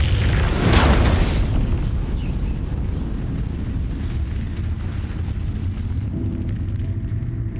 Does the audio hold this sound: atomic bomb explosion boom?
yes